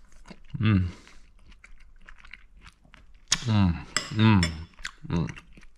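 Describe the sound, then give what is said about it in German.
Eating sounds: cutlery clinks against a plate as someone tastes bigos stew reheated on the stove, followed by chewing and a few short, murmured vocal bursts. Bursts come in small clusters with quiet gaps. “Jetzt habe ich es nochmal aufgewärmt und jetzt probieren wir einfach mal, wie geil das ganze Ding schmeckt.”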